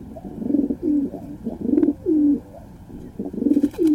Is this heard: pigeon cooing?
yes